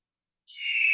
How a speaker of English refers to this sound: There it is. The majestic eagle.